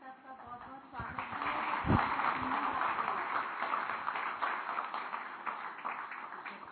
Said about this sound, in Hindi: तालियां बजती रहे, बजाना।